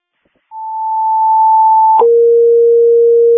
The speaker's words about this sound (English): Also, Station 3 did not receive tones again. Message received, retoning.